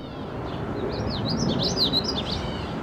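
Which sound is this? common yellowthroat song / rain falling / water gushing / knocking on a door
common yellowthroat song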